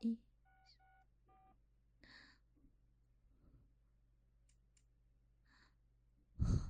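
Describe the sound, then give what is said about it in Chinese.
Three quick phone keypad beeps ring out clear as a phone number is saved on a mobile phone, followed by soft breathy rustles and a loud, abrupt exhale at the end. No one speaks. “好的，我来存下我的手机。”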